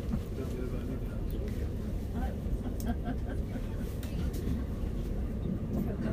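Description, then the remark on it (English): Steady low rumble of a slow-moving train heard from inside a carriage, just past the Shard, a constant dense drone with occasional faint clicks and creaks over it, unchanging in loudness throughout. “This train seems to be going incredibly slow.”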